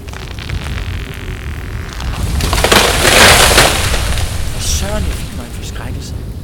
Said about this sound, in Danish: Det er ikke hver dag, det blæser så meget, at træerne vælter. Hvis det der altså var blæsten.